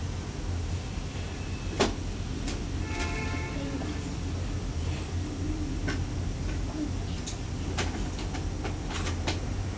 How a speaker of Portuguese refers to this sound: O que tá tocando? O que tá tocando? Relógio? Relógio.